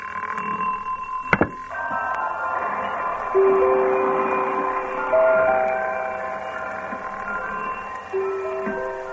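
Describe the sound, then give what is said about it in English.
A repeater alarm clock on a bedroom dressing table goes off: a sharp click, then a steady run of sustained, overlapping ringing tones at several pitches that keeps going at an even, fairly loud level with no voices. “The instrument which we hear now is the repeater type.”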